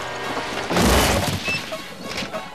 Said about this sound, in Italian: Poi, a causa di un problema al timone, andammo a schiantarci contro il carrozzone del circo.